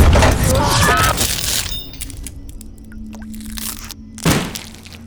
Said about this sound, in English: A Gauss cannon will do that to you. I find that shooting a 1 kilogram rod of tungsten into anything usually puts a smile on my face.